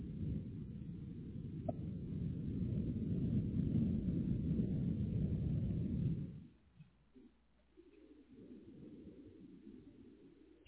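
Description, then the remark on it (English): Loud, dense low roar of a car interior while driving, steady for about six seconds, then dropping off to a quieter, uneven rumble with occasional low thumps. No one speaks. “it sounds like a loud car though”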